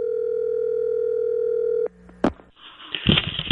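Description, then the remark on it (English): A steady, unbroken telephone line tone hums for about two seconds as a call is placed to golfer Tiger Woods, then cuts off with a sharp click and a burst, followed by rustling line noise as the call connects. “Big story, so let's give Tiger a call and see if he'll talk to us.”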